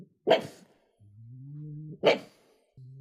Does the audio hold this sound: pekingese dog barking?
yes